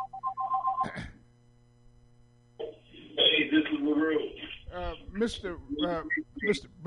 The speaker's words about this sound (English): could you mute your phone, please? Thank you, sir.